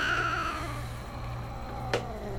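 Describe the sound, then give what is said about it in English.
A nervous pet cat named Cheese, uneasy because of a dog present, lets out a drawn-out, slowly falling meow over a steady low hum, followed by quiet and a single brief sharp click. No one speaks. “So I brought the cat here. And he is nervous because, you know, of the dog in here.”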